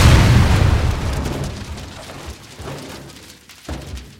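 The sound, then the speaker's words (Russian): A single heavy dynamite explosion blows open the safe of a train's mail car, bursting out loud and low, then rumbling and crackling as it slowly dies away, with a faint thud near the end. “акула Додсон, не теряя времени, закладывал динамитный патрон под сейф почтового вагона. Сейф взорвался.”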